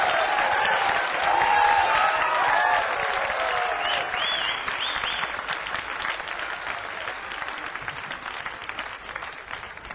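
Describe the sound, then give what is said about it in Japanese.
Loud, sustained applause from an audience as a Blue Note recording artist is brought to the stage, a dense wash of clapping with some cheers and whistles rising above it early on, gradually thinning and softening toward the end. “盛大な拍手でください。”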